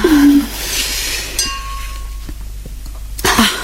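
wine glasses clinking

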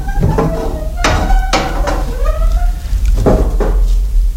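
door opening

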